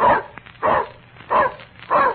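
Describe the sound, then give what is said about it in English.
A dog named Otto, taught to add, barks four times to answer what two and two is, in a slow, steady rhythm, each bark short and evenly spaced and fairly loud, with quiet gaps between and no talking. “Here, let me show you how smart Otto my dog is. I taught him to add, you know.”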